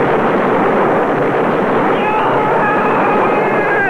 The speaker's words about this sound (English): I was sitting listening to my stereo receiver, when suddenly it started to smolder and shake and vibrate. And then there was a tremendously deafening explosion.